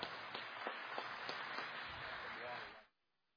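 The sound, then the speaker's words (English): An audience gives one more round of applause in a dense, steady wash of clapping with a few sharper claps standing out, holding at an even loudness for about three seconds before stopping abruptly. “I think we can do one more round of applause.”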